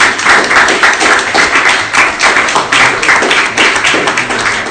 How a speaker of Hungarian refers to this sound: Igen, és egy tapsot megérdemel.